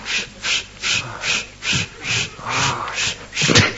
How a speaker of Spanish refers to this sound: ¿Por qué? ¡Hijo! ¿Por qué jadea?